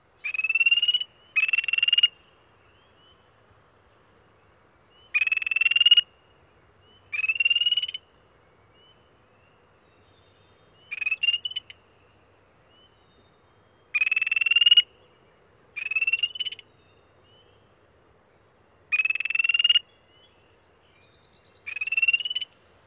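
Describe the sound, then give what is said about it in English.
A small spring peeper frog gives its aggressive call: repeated short, rising, upslurred trills, high-pitched and buzzy, in bursts of one or two every few seconds, clear against a quiet night background. “The spring peeper provides yet another example. Its aggressive call is an upslurred trill.”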